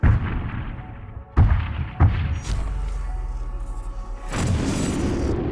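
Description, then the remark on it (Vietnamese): Deep, heavy nuclear explosion booms roll out one after another, with sharp thudding onsets at the start and a long rumbling tail, then a loud roaring blast swells near the end. “Chúng ta sẽ đi về đâu nếu hơn 12.000 đầu đạn hạt nhân được kích nổ cùng một lúc?”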